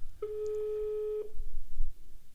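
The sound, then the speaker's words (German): A single steady ringback tone of about one second comes over a phone line, a sustained mid-pitched buzz with faint harmonics, then it stops and only low line hiss remains; a number from a 20-year-old book being called late on a Sunday, and no one answers. “Es klingelt.”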